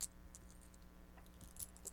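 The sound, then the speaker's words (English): Keys jangle softly in a few brief, scattered metallic jingles, quiet, with a low steady hum underneath and no voices. “Keys?”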